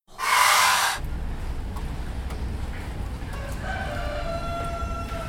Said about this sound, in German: Irgendwo unterhalten sich zwei Hähne.